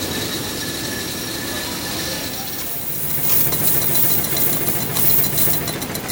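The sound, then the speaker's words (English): A coin press machine in the Royal Mint's coin production room runs with a steady, dense mechanical din and humming tones, spitting out coins, growing louder and more clattering about halfway through, with a rapid metallic rattle and no voices. “So standing in front of a machine which is spitting out coins, how many are being made?”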